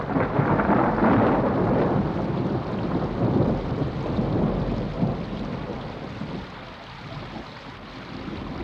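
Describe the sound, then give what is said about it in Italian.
A winter thunderstorm breaks out and rages with deep, rolling thunder rumbling continuously beneath steady heavy rain, loud at first and gradually easing slightly toward the end, with no voices. “Ma era un sole d'inverno e prima che i muratori potessero salire sui ponti si scatenò il temporale.”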